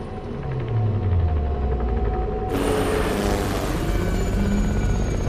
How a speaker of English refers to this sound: An Apache attack helicopter heads into the cloud.